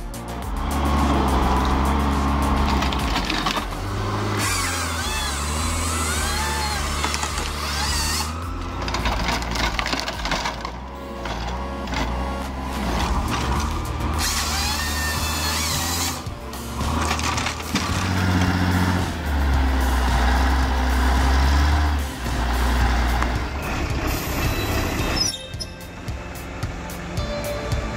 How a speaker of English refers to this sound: Smooth as silk on a slope that screams, danger. This skidder operator's a master of their machine. Hats off to them.